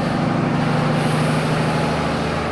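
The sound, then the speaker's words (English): A massive diesel truck rumbles steadily nearby, its deep low engine drone and broad roar holding constant and loud with no talking. “And there's a constant parade of these gigantic dump trucks.”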